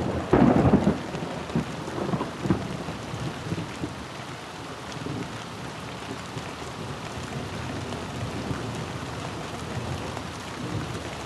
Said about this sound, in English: Even this quick storm overwhelms the town's damaged drainage system. And before long, the streets are streaming with water. It's hard to imagine a big resort here when the terracotta drain pipes can barely handle a spring thunderstorm.